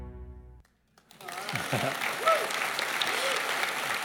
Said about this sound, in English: Well, I do need to interrupt your applause because I do need to be honest.